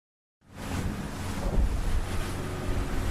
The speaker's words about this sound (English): Bouncing across the waves outside Baltimore, Cork, I'm sharing a boat with 10 other enthusiasts of cetaceans, otherwise known as whales and dolphins.